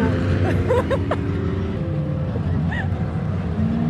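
A dense, steady murmur of many voices from a crowd at an electronic gaming convention, with overlapping chatter and occasional brief laughs rising out of the crowd noise.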